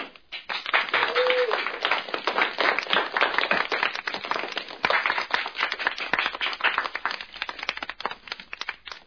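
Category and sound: crowd, crowd applauding and cheering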